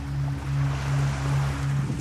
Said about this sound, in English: Burning boat.